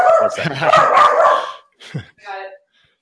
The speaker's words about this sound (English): You got a guest appearance by your dog. It's good. I'll put him in the show notes. He's a very attractive little mini labradoodle.